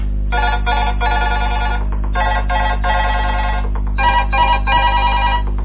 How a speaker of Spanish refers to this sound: Vamos a bajar el sonido del teléfono porque empiezan a llamar y no quiero que me interrumpan ahora.